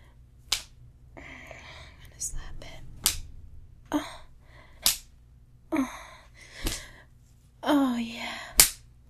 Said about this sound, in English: Those cock slaps. Does it hurt?